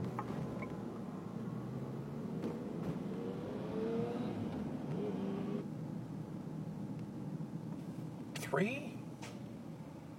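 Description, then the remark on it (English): A car engine rumbles steadily in traffic behind a bus, its pitch climbing as it accelerates from a stop when the bus moves again, with a brief sharp squeal near the end and muffled voices faintly underneath. “I'm behind this bus. Okay, this bus is moving again.”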